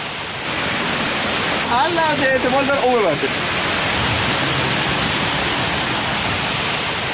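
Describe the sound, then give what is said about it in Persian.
Steady, loud rushing of floodwater roars throughout, a dense wash of churning water, with a brief voice calling out partway through; flooding after heavy rains in southern and southwestern provinces of Iran. “سیل و آب گرفتگی در استانهای جنوب و عمدتاً جنوب غربی ایران.”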